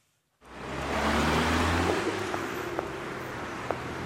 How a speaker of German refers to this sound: Hinwil, Dürntner Straße, Auto an Auto, der Feierabendverkehr rollt durch das frühere Bauerndorf.